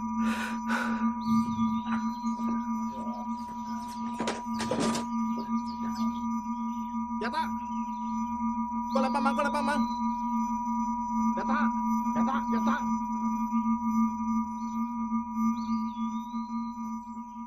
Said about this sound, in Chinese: 电话吵哎，接下啦，吵死人啊！